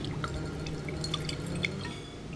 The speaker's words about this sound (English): the manager, pours us a glass of Chardonnay.